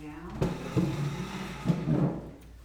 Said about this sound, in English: I'm gonna move this chair so we can see better.